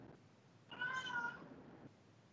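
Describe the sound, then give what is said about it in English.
A single cat meow rises and falls over about half a second, moderately quiet, against a faint background hiss with no talking. “My cats agree.”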